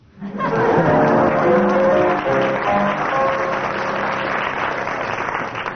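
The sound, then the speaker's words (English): An audience bursts into steady applause, loud and dense from the start, with some cheering tones mixed in early, then easing slightly and continuing for several seconds. “Judging from the audience applause, that deserves 6 marks.”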